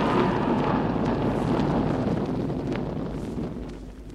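storm wind

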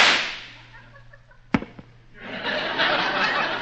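gunshot

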